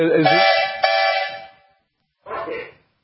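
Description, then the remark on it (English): A loud, reedy steam whistle at a threshing show with tractors in Rolog, Minnesota gives a long blast of about a second and a half, then falls silent before a shorter second toot. The tone is rich in harmonics and steady in pitch. “Can you hear the sea whistle, Kevin, here in Rolog, Minnesota?”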